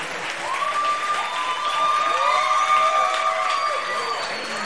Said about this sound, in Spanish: Que siga el aplauso para la prestigiosa sección. PGGGGG, damas y caballeros